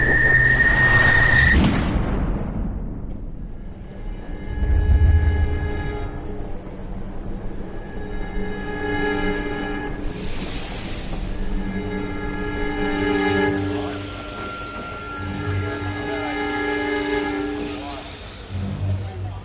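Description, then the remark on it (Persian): A train pulls away from a station and runs along the rails, opening with a sharp metallic squeal, then a steady low rumble and droning tonal hum that swells and persists throughout. “مسافرین محترم، قطار به زودی حرکت خواهد کرد، لطفاً هر چه سریعتر سوار شوید.”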